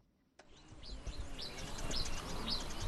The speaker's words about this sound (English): Only birds and insects break the silence at a gold mining site in the eastern region of Ghana, at the foot of the Atewa Forest Reserve. Excavators stand still as the two Ghanaian companies operating them wait for a new mining permit